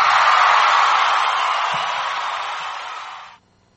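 Audience applause for a speaker on the radio show Patriot Broadcast from the Trenches, 89.5 Micro FM, Chiloquin: a dense steady wash of clapping that holds for about three seconds, eases slightly, then cuts off abruptly. No one speaks over it.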